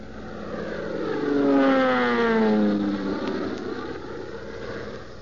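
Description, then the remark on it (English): A crippled, burning propeller airplane in Tailspin Tommy roars as it dives down through billowing smoke to bomb a burning oil well, its engine pitch sweeping downward and swelling loud before easing off into a steady drone, with no voices. “And we leave Tailspin Tommy and Skeeter diving their crippled plane down through the billowing smoke to make one last attempt to bomb the burning well.”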